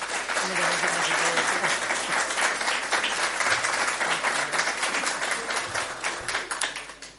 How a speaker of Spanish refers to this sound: y también me gustaría, aunque habéis tenido ya oportunidad, yo creo casi todos, que le demos también esta bienvenida y un caluroso aplauso a la concejala de Servicios Sociales,